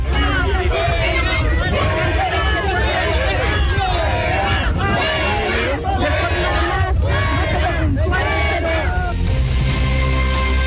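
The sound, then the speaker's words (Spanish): A loud, agitated crowd in Punta de Parra, Chile, shouts and yells at President Gabriel Boric during his visit, telling him to leave, in a dense, continuous roar of overlapping voices, which cuts off abruptly near the end into a steadier background hum. “Bien, ahí escuchábamos gritos de la gente que le decían al presidente Gabriel Boric que se fuera.”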